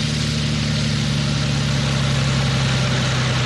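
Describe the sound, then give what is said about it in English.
A lawnmower engine idles steadily with a low, even rumble and a constant droning hum, holding the same pitch throughout without revving or pauses. “Turn this sucker off here. Where are the keys at? I know the ignition's here somewhere.”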